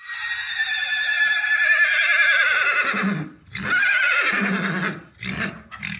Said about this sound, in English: They don't whinny like the horses up at Karlsruhe.